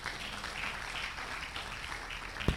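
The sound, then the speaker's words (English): An audience claps steadily throughout, a dense, even patter of many hands at a moderate level, with one sharper snap just before the end. No one speaks. “Clap your hands.”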